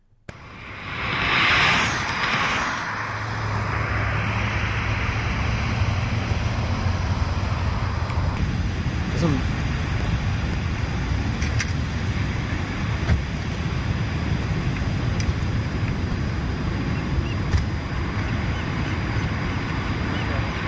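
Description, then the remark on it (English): An electric sports car passes with almost no motor sound, just a broad rushing hiss of tires on pavement that swells early on and then settles into a steady road roar. “I'm hearing more road noise than car noise. Yeah. It's sounding like tire noise.”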